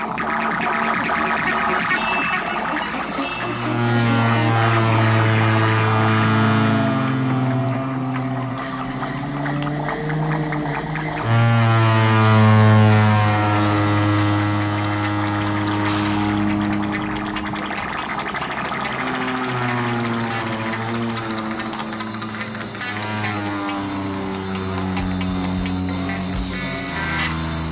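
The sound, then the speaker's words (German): A heavily distorted flute, blown into, drones in long, buzzing tones, mimicking honking car horns and a rumbling engine. The sustained, gritty blasts swell and shift in pitch, loud, with no talking. “Den Klang, das Hupen und den Motor da. Ich glaube, ehrlich gesagt, das ist seine verfremdete Flöte.”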